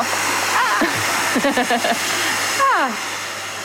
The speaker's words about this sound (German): Ach, das ist ein Föhn. Ja, genau.